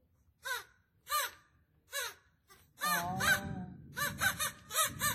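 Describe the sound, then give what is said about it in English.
Crows caw in harsh, separate calls about a second apart, then several birds break into a loud, overlapping flurry of cawing over a low rumble. No one speaks. “It's no wonder the swans and crows are very upset with you.”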